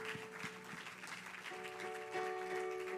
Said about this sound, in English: Let's give our Jesus a hand clap of praise.